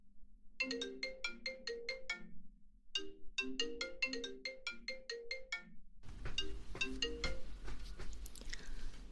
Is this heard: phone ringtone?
yes